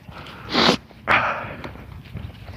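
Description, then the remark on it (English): Two breathy sniffs through the nose, the first short and sharp, the second longer and trailing off, followed by quiet rustling background noise. “I don't know if it was a handkerchief or the sniff that did it, but...”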